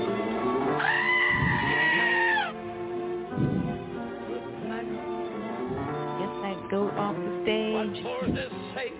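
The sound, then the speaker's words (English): A goat bleats loudly in a series of wavering, nasal cries, the first one long and drawn out, followed by several shorter quavering bleats with no talking. “What was the last thing the goat said?”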